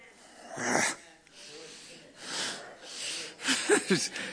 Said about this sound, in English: Did I just growl? Did I? People come up there and do things I must do. I'm not even aware I do it half the time.